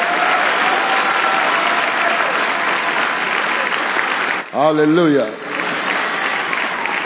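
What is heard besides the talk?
audience clapping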